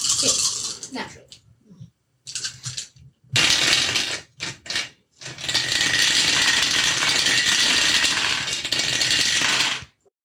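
Dice rattle and clatter down a dice tower: a few short bursts of tumbling clicks, then a long, dense rattle lasting several seconds before stopping abruptly.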